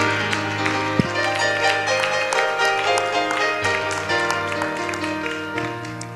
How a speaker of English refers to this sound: As we're seated, let's clap our hands and give a great shout of praise to the Lord.